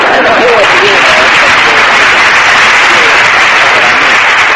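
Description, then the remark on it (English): A studio audience claps loudly and steadily for several seconds, a dense wash of applause that fills the whole stretch, with faint voices mixed in near the start. “You could have come in a little sooner with the applause on that other joke.”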